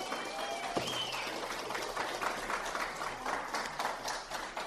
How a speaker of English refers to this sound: They've done amazing things over the month of February. So, guys, give them a massive round of applause.